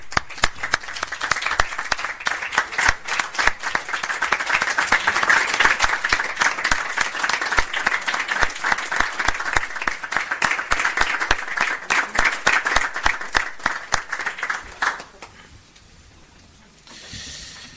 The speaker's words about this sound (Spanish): ¿Votos a favor? Se aprueba por unanimidad. Un aplauso.